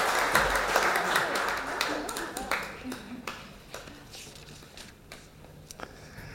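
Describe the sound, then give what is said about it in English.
A short burst of audience applause for the helpers, dense and crackling at first, then thinning into scattered claps as it fades out over several seconds, with a faint murmur of voices underneath. “Well, let's give our helpers here a round of applause.”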